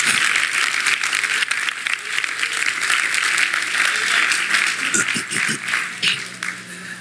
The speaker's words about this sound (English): Look, he's doing it. Let's give him a good round of applause.